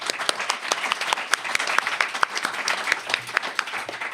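A quiz show audience applauds steadily for a contestant, many hands clapping in a dense, crackling wash with sharper individual claps popping out, sustained at a fairly even loudness throughout.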